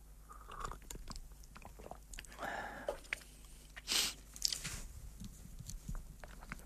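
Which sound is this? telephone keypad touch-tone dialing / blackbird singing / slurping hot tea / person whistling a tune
slurping hot tea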